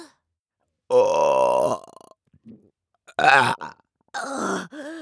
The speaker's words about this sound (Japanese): 胃の中ジャブジャブ揺れて気持ちいい。やべ、いく、またザーメンゲップ出して、いく。